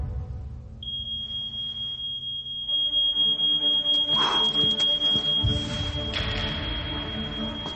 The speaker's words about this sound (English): On hearing a smoke alarm, a mother would look towards her child. Amazing how fire exposes our priorities.